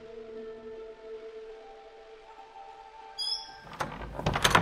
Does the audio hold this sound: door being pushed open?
yes